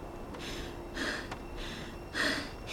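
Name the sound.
heavy breathing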